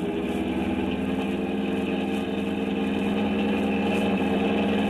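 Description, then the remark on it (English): A car engine roars loudly, a dense, steady drone held flat out for the whole stretch with no voices over it, the car driven with the accelerator flat to the floor while being chased by a police car. “Can't get any more out of this. My foot's flat on the floor now.”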